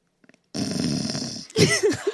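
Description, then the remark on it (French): A person imitates snoring: a long, rough, raspy inhale followed by a short burst of throaty, wavering snorts, fairly loud, after a few faint clicks. “Tu ronfles ?”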